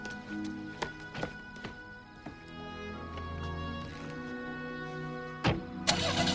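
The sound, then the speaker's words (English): A Roadster car engine cranks and turns over, settling into a steady low idle with a few sharp mechanical clicks, then a brief louder burst near the end. No one speaks. “Stuart waves from the rear window of the Roadster.”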